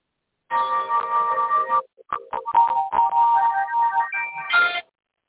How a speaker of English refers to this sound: Yeah. Well, that's your alarm saying give up